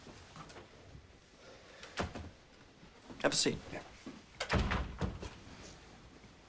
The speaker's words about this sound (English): Close the door.